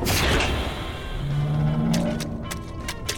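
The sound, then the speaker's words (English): A submarine's airlock chamber door opening after the water is released: a loud rush of hissing air gives way to a low, droning mechanical hum, followed by several sharp clanks and clicks near the end. No voices. “Opening chamber door.”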